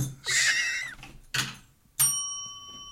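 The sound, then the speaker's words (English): A bell sound effect: two rough, clattering knocks, then a bright metallic bell strike whose high, pure tones ring out and slowly fade for the last second. “That deserves a bell.”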